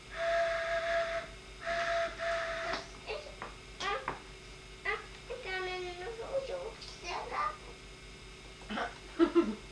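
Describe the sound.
A toy train whistle toots twice in steady, held blasts, followed by people talking and a child's voice chattering over faint background noise.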